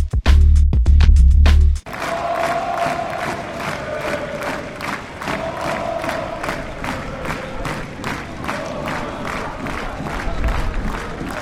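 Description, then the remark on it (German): A stadium crowd of just over 4,000 spectators cheers at a football match against Werder in fine weather, with the score at 4-0, a loud sustained roar with rhythmic claps and chanting pulses, opening with a few sharp low thuds before the steady din. “Und etwas über 4.000 Zuschauern im Stadion.”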